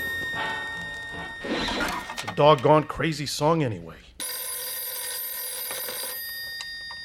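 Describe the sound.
A telephone bell rings insistently in the background while a voice speaks in a lilting, sing-song way, then the ringing swells and continues loud and shrill on its own.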